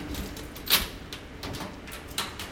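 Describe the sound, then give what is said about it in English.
A museum specimen cabinet drawer holding bird specimens in the Division of Birds at the Smithsonian Institution slides open with a short scraping rumble and one sharp clack, followed by fainter shuffling and softer sliding knocks. “Yeah, birds have, depending on which drawer you open, you'll get some very unique smells.”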